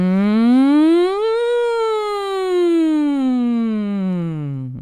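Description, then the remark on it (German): A voice imitates a siren with a single sustained tone that rises in pitch over the first second or so, then slowly glides back down, loud and alone, ending abruptly. “Okay, mach mal Sirene.”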